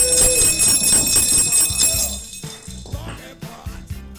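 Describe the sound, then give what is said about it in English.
A donation alert sound effect during a fundraising DJ set: bright, jingling bells ring out loudly at first, then give way to a steady rhythmic shaking like maracas over low tonal notes, without any talking. “You're going to get bells and maracas.”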